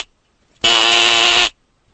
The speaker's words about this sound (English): Do you hear how sick that buzzer sounds?